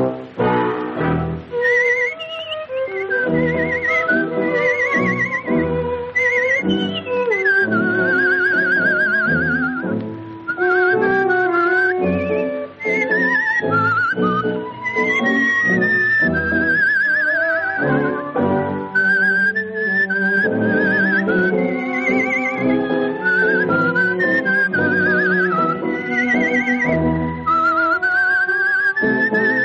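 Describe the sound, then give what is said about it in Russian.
Whistled imitation of nightingale trills, high warbling runs and quick flutters, performed by a woman seated in a cage under the dome of a concert hall, over a full orchestra below accompanying a tango, loud and continuous throughout with no talking. “сидела в этой клетке под куполом концертного зала и изображала трели соловья, это же красивая танго, а внизу сидел оркестр, который ей аккомпанировал.”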